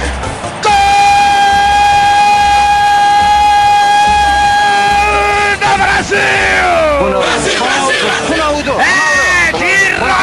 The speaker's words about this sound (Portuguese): Se eu fosse um cantor, faria de um grito de gol uma ópera. Como não posso, eu grito.